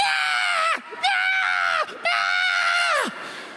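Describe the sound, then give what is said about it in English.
A newborn baby screams and cries in three long, loud wails, each trailing off in a downward drop, with only brief gasping breaks between them. “Us newborn parents look at a baby screaming and crying, going, hey, welcome to the earth, little one.”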